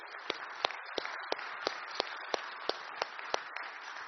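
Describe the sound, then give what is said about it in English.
A church audience attending in person applauding steadily for their senior minister, a dense wash of clapping with one sharper, evenly spaced clap cutting through about three times a second. No one speaks. “Could I invite you at this time, if you're in person, to just offer some applause for your senior minister, Wade, for his service and for what he does?”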